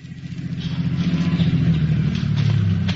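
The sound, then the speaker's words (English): A police lieutenant's car engine rumbles, its low mechanical drone swelling over the first second and then holding steady as the car rolls in and pulls to a stop at the lot of Happy Harry, a used car dealer. No one speaks. “Following one line of their investigation, Lieutenant Leo Kelly hurried to the lot of a used car dealer, Happy Harry, in response to a call from Sergeant Joseph Maurer, who was waiting as the lieutenant's car pulled to a stop.”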